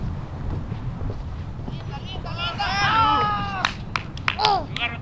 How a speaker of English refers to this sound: We reach a gravel path that takes us away from the road and... Can you hear it? Behind our walking, that background you hear is the sound of the ocean.